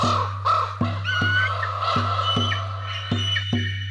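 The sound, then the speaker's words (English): A raven flying above a village calls repeatedly in short, harsh croaks at an irregular pace over a steady low hum, with faint higher chirps in the background. “Raven and Eagle are flying once more. Up above the village, up above the city.”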